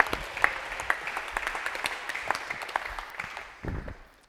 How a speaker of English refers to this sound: So why don't you go ahead and give him a round of applause, and let's welcome him up.